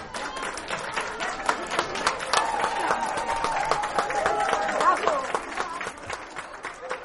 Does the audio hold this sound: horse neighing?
no